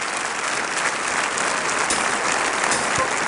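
A large crowd at a North Point Ministries holiday show applauds and cheers in a steady, dense roar of clapping that holds at an even, fairly loud level throughout, with no pauses.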